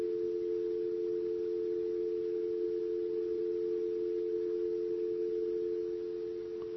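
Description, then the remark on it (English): A steady, unbroken telephone dial tone after a dropped call hums continuously at moderate loudness for several seconds, with no voices, fading slightly at the very end. “You're hearing that annoying dial tone there?”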